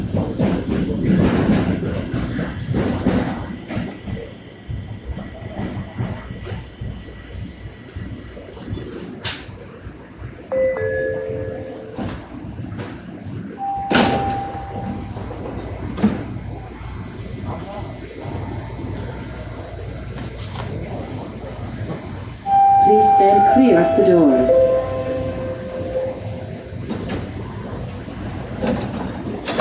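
A subway train rumbles and squeals as it pulls into York Mills Station, with short electronic chime tones ringing out as the doors open on the left, steady mechanical noise underneath throughout.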